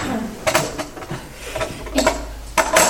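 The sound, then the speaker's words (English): A printer runs through a sheet of paper, giving a series of uneven mechanical clacks and whirring bursts over a low steady hum, with the loudest rattles near the end. “I'll just print another piece of paper.”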